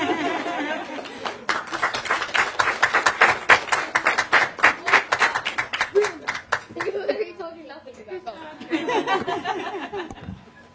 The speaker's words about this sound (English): That will please rub your hands together and warm them up. On the count of three, we're going to clap and say, oh yeah. 3, 2, 1. Oh yeah! Yeah. We love play work!